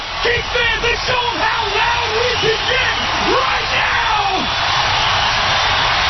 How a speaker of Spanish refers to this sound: Y esto es la gente gritando, sin más.